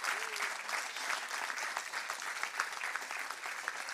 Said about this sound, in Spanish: No los puedo dejar ir sin pedirle un aplauso más para estas hermosas personas que están aquí.